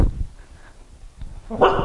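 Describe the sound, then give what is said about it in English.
A female dog in obedience training gives a short whimpering bark near the end after a quieter stretch, with a brief vocal sound at the very start and no talking. “Good dog.”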